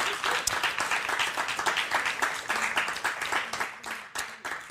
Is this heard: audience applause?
yes